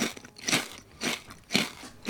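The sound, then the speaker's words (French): Crisp homemade chips crunching, about four or five sharp, crackly bites in a steady rhythm roughly every half second, with no one talking. “Des chips croustillantes, des folles et des fondantes.”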